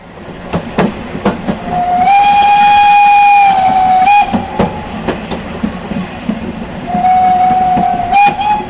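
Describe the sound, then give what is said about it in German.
A train rumbles and clatters along with rhythmic clicks on the rails while a steam whistle sounds loudly in a long sustained blast, then again more briefly near the end. No one speaks. “lassen Sie uns hören, was auf meiner fiktionalen Eisenbahnreise Schülerinnen und Schüler des Nienburger Albert-Schweitzer-Gymnasiums herausgefunden haben.”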